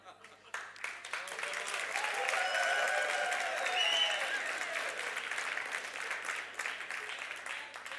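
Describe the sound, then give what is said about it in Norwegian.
A large audience bursts into sustained applause, a dense crackle of clapping that swells for several seconds and holds steady before gradually thinning toward the end. “For en enorm applaus.”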